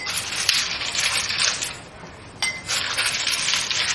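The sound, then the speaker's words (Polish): Two or three ice cubes clatter into a glass one after another, giving bright clinks and rattles over a brief pause, with no voices. “Powinien być kruszony teoretycznie, ale jechać. Dwa, trzy kostki.”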